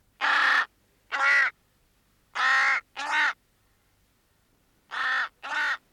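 A raven caws six times in three evenly spaced pairs, each call a harsh, throaty croak, loud, with quiet pauses between pairs and no voices.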